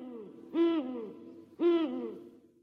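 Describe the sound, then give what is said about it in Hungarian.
An owl hoots twice, about a second apart, each call a short, rich, wavering hoot heard clearly against a quiet background, with no talking. “Itt fönn aztán biztosan nem lakik senki. Legfőjebb baglyok és denevérek.”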